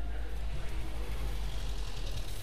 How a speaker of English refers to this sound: Oh, there's a car outside the window. It's driving off.